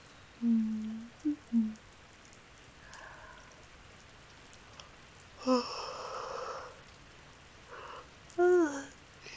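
Steady rain patters on a surface throughout, a soft continuous hiss of drops, with a few brief tonal, voice-like calls rising over it now and then.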